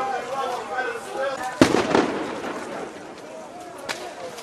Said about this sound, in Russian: На Майдане не удалось сохранить объявленное в среду перемирие. И с той, и с другой стороны летят коктейли Молотова, слышны выстрелы и горят покрышки, образуя густой дым.